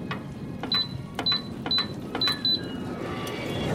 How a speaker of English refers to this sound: What? What is that? Some sort of hidden bookcase door?